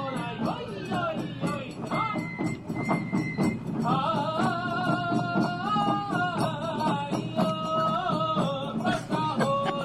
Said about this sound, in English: They play this when they come on to the Bon dances across the islands. Listen to the cowbells here, the whistle, the drums.